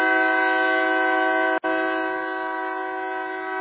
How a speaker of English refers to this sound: Well, the train agrees.